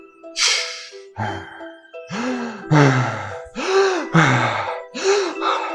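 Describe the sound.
A voice imitates desperate gasping first breaths, a rapid series of about seven loud, ragged inhales and voiced gulps in uneven rhythm, each breath sharp and airy with a strained, groaning edge.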